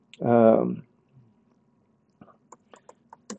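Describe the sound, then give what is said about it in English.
A short vocal sound opens, then after a pause comes a quick, uneven run of about seven light clicking taps of keys being pressed on a computer keyboard, typing "sinful nature" into the search tool of the website wordsoftruth.net. “Typing in here, sinful nature.”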